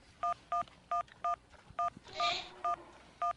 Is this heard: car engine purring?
no